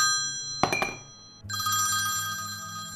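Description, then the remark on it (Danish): A telephone rings loudly in an office, a sharp metallic burst followed by a sustained, bright electronic-sounding ring that continues steadily to the end, with no one speaking. “Telefonen ringer pludselig og river mig ud af søvnen.”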